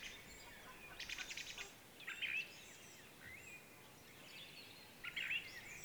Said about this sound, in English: Rising at dawn to listen to bird song. The first time I experienced this in Getabo, it felt like a riot or a rave was erupting deep within the forest.